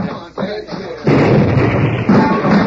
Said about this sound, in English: That did it. Blasted the vault wide open.